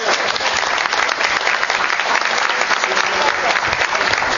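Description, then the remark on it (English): Steady applause from an audience, a dense, even crackle of many hands clapping at a constant loudness for several seconds without letting up, for Peter Benavides, Executive Director of Blindness Support Services, at the presentation of a California Council of the Blind Community Service Award plaque. “Ladies and gentlemen, we need a round of applause for Peter Benavides.”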